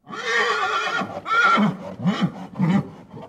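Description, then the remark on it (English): An Arabian horse neighs loudly on a stud farm, a long shrill whinny followed by several shorter, fluttering bursts that trail off over a few seconds, with no voices present. “An Arabian horse's laughter on Mr. Ciupiński's stud farm.”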